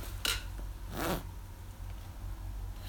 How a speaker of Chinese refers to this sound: 自己把拉链拉开，快点呀！